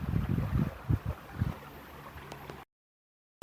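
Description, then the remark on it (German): River water babbles and splashes steadily, with a few heavier low sloshes near the start, then the sound cuts off abruptly into silence. “und dich auf das wunderbare Plätschern im Hintergrund”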